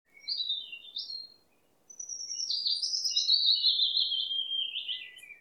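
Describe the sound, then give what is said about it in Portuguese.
A toucan with black feathers, a white band on the front of its neck and a long, curved, mostly yellow bill with red and black tips, perched on a branch, calls with high, bright whistled notes: two short cries, a brief pause, then a long run of sliding, descending calls, clear, with no talking. “O tucano é uma ave de penas pretas, com uma faixa branca na parte da frente do pescoço.”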